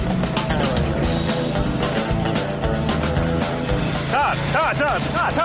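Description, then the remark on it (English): A grout pump runs loudly and steadily, its motor droning without pause, while people talk over the noise, pumping a last batch of grout up into a hole. “Pump and growl.”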